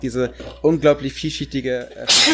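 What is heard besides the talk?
loud sneeze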